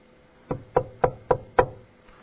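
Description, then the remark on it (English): Five firm knocks on a wooden door in a quick, steady rhythm, clear against a quiet background, with no one speaking. “He just kept on knocking at the door.”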